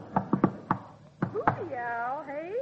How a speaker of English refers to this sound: Sounds like a woodpecker. Well, maybe it's a human being a-knocking on the door.